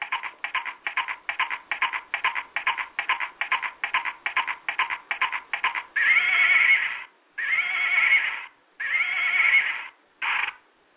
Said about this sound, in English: You know, the children know that sound, that horse.